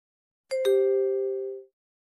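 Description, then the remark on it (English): A short beep tone made of two quick chime-like notes, the second slightly lower, ringing together for about a second before fading out, with no talking; the beep signals when to enter credit card information to pay for tickets. “Please enter your card information when you hear the beep.”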